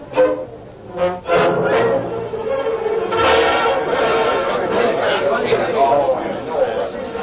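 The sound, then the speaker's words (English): Judge Bittner's crowded courtroom, packed with men, women and children there to hear a trial, buzzes with steady murmuring chatter, many overlapping voices talking at once, no single speaker standing out. The hubbub stays fairly loud and continuous throughout. “Every man, woman, and child who could crowd into Judge Bittner's courtroom was there to hear the trial”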